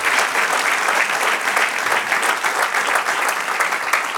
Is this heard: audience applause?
yes